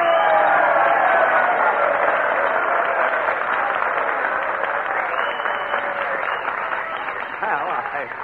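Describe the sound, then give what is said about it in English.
An audience applauds steadily for several seconds, encouraging Jack Benny to come up and play a violin solo, a dense wash of clapping that stays loud throughout and thins only slightly toward the end. “I'm sure that with a little encouragement and applause, we can get Jack Benny to come up here...”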